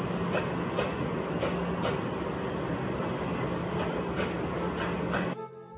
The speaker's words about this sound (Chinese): 两个月后，小胖搭上了回乡下的火车，心里想着， 不知道脚下的白云伸出来了没有。